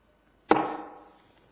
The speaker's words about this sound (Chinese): 我也得拍这小木头，我也得像这些说书的似的，前头也有这个定场诗。